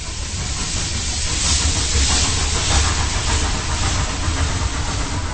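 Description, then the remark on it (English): A steam train hisses steadily over a low mechanical rumble as it is shunted up and down the rails at Volary in the soft evening light, a loud, continuous wash of steam and engine noise with no voices. “From České Velenice, it's on past České Budějovice, Černý Kříž and Volary, where a steam train is being shunted up and down the rails in the soft evening light.”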